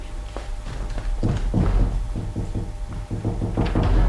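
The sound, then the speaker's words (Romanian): A series of solid knocks on Molceanin's wooden door, a dozen or so hollow thuds in uneven clusters, loud over a low background rumble, with no one speaking. “Dar după cum poruncă Duducuța mi-a fost dat, la ușa lui Molceanin urmează cioc, cioc, cioc să bat.”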